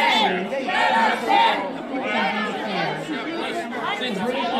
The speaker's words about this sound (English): Crowd chanting, let us in. They're demanding Charlie Kirk come out to talk to them.